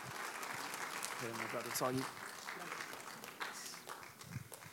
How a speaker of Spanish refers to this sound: Dele ese aplauso más fuerte todavía. Adora al Rey hoy.